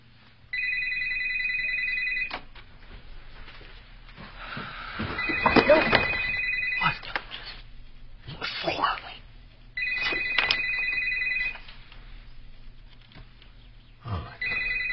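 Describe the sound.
A phone line rings out with an outgoing ringback tone, four repeated electronic rings in a steady rhythm, with muffled rustling and faint voice sounds between them.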